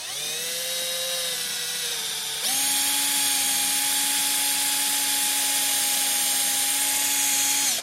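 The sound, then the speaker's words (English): A power drill whines steadily as it bores a pilot hole into a wooden stud, a high squeaking tone riding on the motor. Partway through, the pitch jumps higher and holds loud until it stops abruptly. “There's a little bit of a squeaking sound in there. That lets you know that there is wood back there.”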